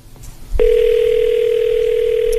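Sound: phone ringing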